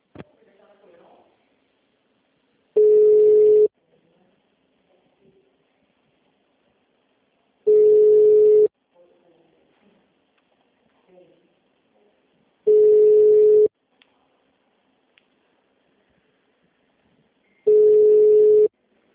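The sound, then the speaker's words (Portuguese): A telephone busy signal from a call that is not going through because the phone at the other end is off the hook: four loud, steady mid-pitched tones, each about a second long, repeating at even intervals, with faint murmuring voices in the gaps. “Não tá completando, tá fora do gancho lá o telefone.”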